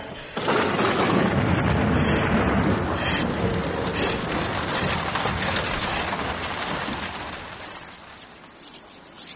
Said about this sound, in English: Rain, thunder. There was a thunderstorm, wasn't there?